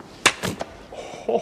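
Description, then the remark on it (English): A sharp slap across the face cracks out, quickly followed by a couple of softer smacking impacts, then a brief murmur of voice near the end. “That was a slap.”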